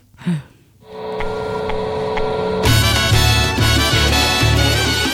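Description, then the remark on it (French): A phone rings with a musical ringtone: a sustained electronic tone swells up, then bursts into a loud, busy tune with a steady pulsing beat, with no voices. “Le téléphone.”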